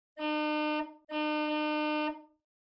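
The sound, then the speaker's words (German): A vehicle horn sounds two long, loud blasts in quick succession, the second held a little longer than the first, with no one speaking; Paulus presses the horn of the bus Fidibus a few times as it sets off. “Ciao, rief Pieper, und Paulus drückte ein paar Mal auf die Hupe.”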